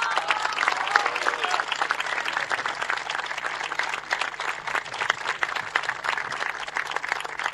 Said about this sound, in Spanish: Así que muchas gracias y un aplauso realmente para ellos.